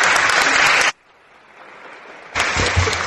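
Loud applause from an audience at the end of a speaker's talk, a dense crackling clatter of many hands that cuts off abruptly, leaves a short hush, then bursts back in just as strongly.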